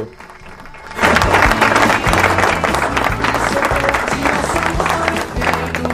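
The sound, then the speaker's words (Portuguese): An audience breaks into loud, dense applause for the young athlete Vampetinha, son of Vampeta, after a brief quiet start, the clapping holding steady and bright for several seconds with some crowd noise mixed in. “Cadê as palmas aí pro nosso atleta, o Vampetinha, filho do Vampeta, Francisco Cordeiro.”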